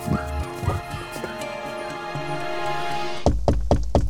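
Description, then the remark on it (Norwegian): A few heavy, hollow knocks on a front door land in quick succession near the end, loud, following a stretch of low, droning background sound with a couple of softer thumps. “Kanskje banket den på ytterdøret.”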